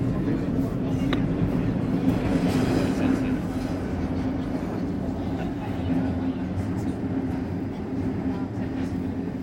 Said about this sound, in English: Treno per, train to, Abbiategrasso, Chiesa Rossa. Apertura porte a sinistra. Doors open on the left.